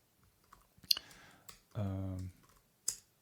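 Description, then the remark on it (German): A few sharp, isolated keystrokes tap on a computer keyboard at irregular intervals, fairly quiet, with a short voiced hum from someone partway through, as someone types the exit command in tmux to close the panes. “Schwierig kann sein, Exit zu tippen.”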